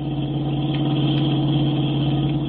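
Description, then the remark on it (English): A car engine runs loud and continuous as the car speeds up, weaving all over the road: a deep, even droning hum with a rough mechanical edge, holding a nearly constant pitch throughout with no voices. “She's speeding up.”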